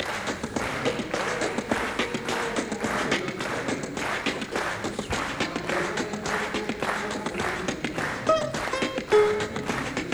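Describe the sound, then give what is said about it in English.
Hands clap a steady rhythm to accompany singing, roughly two sharp claps per second, continuing evenly throughout, with a faint voice briefly rising in pitch near the end. “I'll sing and clap a little rhythm at the same time.”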